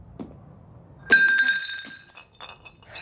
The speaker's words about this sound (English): She turns quickly to see a fallen jar of spilled coins rocking back and forth on the floor.